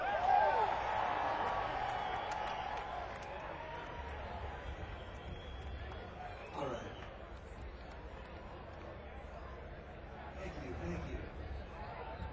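A young festival crowd cheers and whoops for a performing band in a steady, dense roar, with a few higher shouts rising out of the noise now and then.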